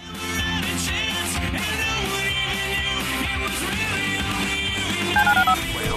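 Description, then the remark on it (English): Over a loud, busy music bed in a radio promo for calling the listener line, a quick run of four short telephone dialing tones beeps out near the end, pitched and evenly spaced like buttons being pressed. “Dial the phone.”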